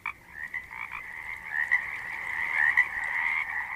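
A common bullfrog's deep croaking call drones on steadily for several seconds, a continuous throaty vibrato that swells slightly louder midway, heard alone at moderate volume with no voices.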